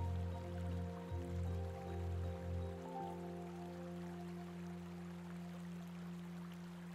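flowing water

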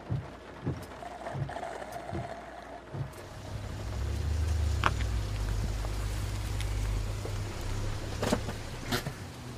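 rain

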